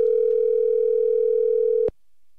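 A steady, loud telephone dial tone hums for nearly two seconds as a phone number is about to be dialed, then cuts off abruptly with a sharp click, leaving near silence.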